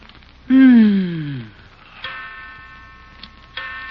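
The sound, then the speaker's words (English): A few sharp, ringing ticks of a clock spaced out at 3 o'clock at night, following a loud, sliding, descending tone near the start. “Yeah, I know it's 3 o'clock.”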